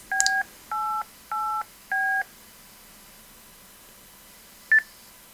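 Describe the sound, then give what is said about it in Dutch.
Four DTMF touch-tone digits are keyed in quick, even succession on amateur radio to relink the digital repeater PI3XDV, each a steady dual-pitched beep. After a pause comes one short final tone, with faint background hiss and no voices. “Dus, nou, ik kom dan weer opnieuw link. Dat doen we met DTMF.”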